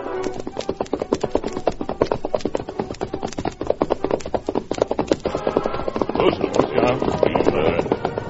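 horse hooves clip-clopping

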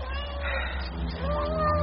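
cat meowing

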